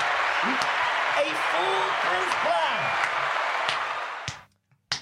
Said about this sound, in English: Round of applause for the geniuses.